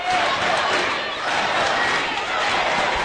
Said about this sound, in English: A lot of chants, a lot of cheering here for the Lumen supporters in the crowd.